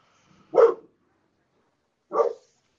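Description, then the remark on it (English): Two sharp barks from a pup, spaced about a second and a half apart, fairly loud, with silence between them and no talking. “Hello to you and your pup.”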